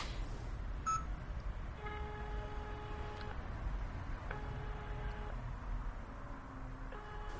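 Phone dialing beeps while calling a mobile phone: a quick blip, then long, steady electronic tones repeating with pauses between them, moderately loud over a constant low background rumble, with no one speaking.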